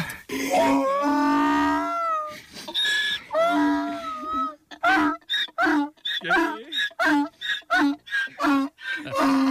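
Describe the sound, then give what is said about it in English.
A donkey named Baldo brays loudly: a long, wavering honk first, then a rapid run of short, rhythmic, hoarse hee-haw bursts that keep pulsing to the end. “You got to play the donkey noise.”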